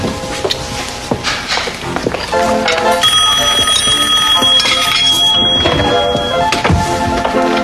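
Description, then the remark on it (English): A shrill bell-like telephone ring, the railroad caller calling a train engineer, starts about three seconds in and keeps ringing steadily, a bright high-pitched rattling tone over a busy, clattering background. “Who is that calling you on the telephone, Papa?”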